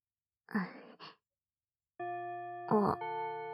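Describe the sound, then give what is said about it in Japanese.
A school bell chime starts ringing after a brief breathy vocal sound, holding a steady, sustained tone to the end while a short voice cuts in over it. “チャイム鳴っちゃった。教室戻らないと。”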